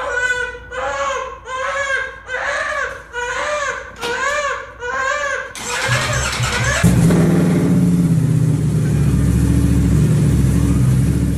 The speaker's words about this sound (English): A baby wouldn't stop crying. Mm-hmm. Now, I've heard of taking a kid on a ride in a car to settle it down, but this dad just, keep in mind, he kept the garage door open for ventilation, just revved his motorcycle and the kid shut up.